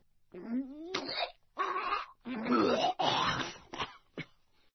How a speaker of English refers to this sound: But why do sounds disgust us? Imagine the sound of someone being sick.